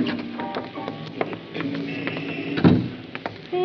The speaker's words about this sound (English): Wait till we get outside. Okay. I'll get the door.